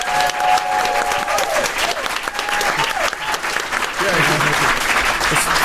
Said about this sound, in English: Let me hear a very warm round of applause